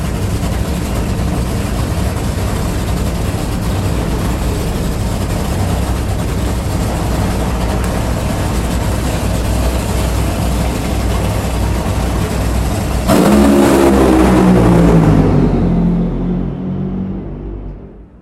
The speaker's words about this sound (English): I'm gonna wait for these cars to run.